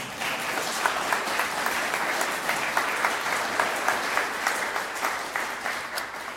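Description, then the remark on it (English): Many people applaud steadily in appreciation of youth sponsors, a dense patter of many hands clapping at an even level for several seconds, without any voices rising above it. “If you want to clap, that is fine.”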